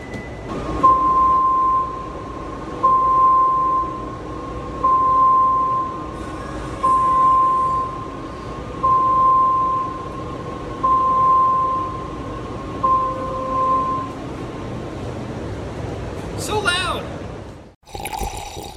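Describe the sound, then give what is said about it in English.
An orange toy car in a garage sounds its loud reversing alarm as it goes into reverse, a steady high beep about eight times at even intervals, over a rumbling, noisy background, before it cuts off abruptly. “And it makes a loud noise when he goes into reverse.”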